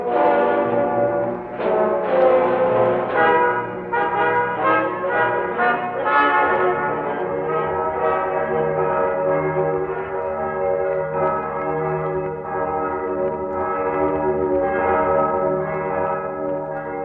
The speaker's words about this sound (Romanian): ați fost punctual, domnule. Clopotele bat ora în miezii.